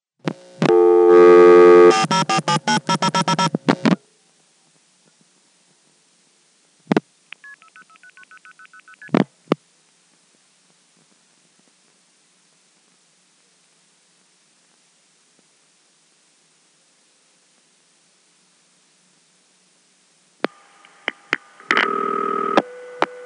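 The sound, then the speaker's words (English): A telephone call in the Augusta area pulses through crossbar switching, taking a long time because of a very high dial-pull number, and ends on centralized intercept in a Crossbar 5 office: a rapid run of signaling tones, a few sharp relay clicks and a short beeping stretch, a long silent wait, then more tones near the end. “You'll notice it'll take a really long time to go through because of that extremely high dial pull phone number.”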